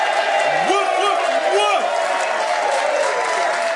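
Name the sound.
audience cheering and applause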